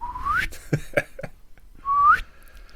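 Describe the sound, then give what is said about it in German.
Someone whistles two quick upward-sliding notes, imitating a slide whistle, separated by a short pause with a few soft knocks and clicks in between. The whistles are fairly loud. “So, wie so eine Pfeife, die so ein Stabal vorne hat.”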